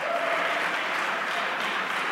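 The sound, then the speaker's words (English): An audience claps their hands to thank the Lord, a dense, even wash of many hands applauding at constant loudness throughout, with no voices standing out above it. “Come on, somebody clap their hands and thank the Lord for it.”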